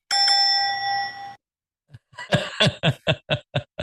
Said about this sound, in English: I don't even know who did the bell.